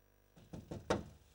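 Alan pushes a door shut on Bimbo Candy with a couple of quick soft bumps leading into one firmer thud, brief, with no voices.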